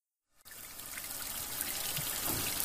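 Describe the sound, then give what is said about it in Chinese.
After a brief moment of silence, a shower in a bathroom suddenly starts running, a steady, even hiss of spraying water that continues unbroken at a moderate level, with no voices. “听到浴室里淋浴的水声”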